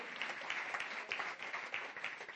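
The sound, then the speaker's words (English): A crowd applauds steadily, many hands clapping in a dense, continuous wash of sound that fills the space, fairly loud and unbroken with no voices standing out. “Come on, give him a great clap offer, would you?”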